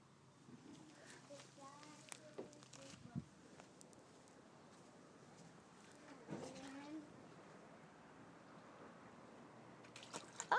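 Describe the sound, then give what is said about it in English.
Quiet, scattered splashes and drips of water in a paddling pool as a child throws things out, with soft voices murmuring intermittently and a slightly louder burst of sloshing at the very end. “Splash, splash. What can you see in the paddling pool?”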